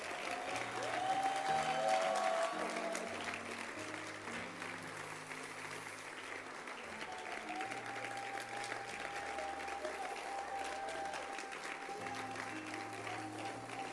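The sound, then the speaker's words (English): An audience claps steadily and continuously for the whole stretch, a dense wash of hand claps over a sustained organ or keyboard chord progression, with a faint voice rising briefly near the start. “Clap your hands.”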